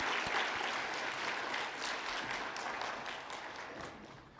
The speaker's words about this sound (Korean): 우리 다시 한번 하나님께 영광의 박수 돌려드리도록 하겠습니다.